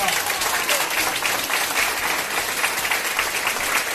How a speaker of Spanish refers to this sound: Este aplauso, estos aplausos, son los que ha recibido este fin de semana un taxista de Alcorcón.